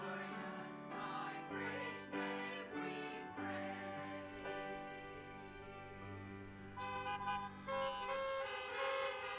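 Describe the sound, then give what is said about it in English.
Several car horns honk together as a kind of applause, in long, overlapping blasts, sustained and fairly loud, forming a continuous blaring chorus with new honks joining throughout. No one speaks. “What does the honking mean? Just sort of approval?”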